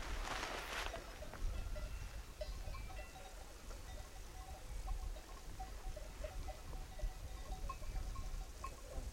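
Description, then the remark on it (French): A large round sheep bell (sonnaille) on a ewe clanks irregularly and softly, the metallic tinkles recurring throughout over a steady outdoor rush of wind or rain. “Ta ronde, là, pour où ta grosse ronde, elle y est, là. Enfin, la sonnaille.”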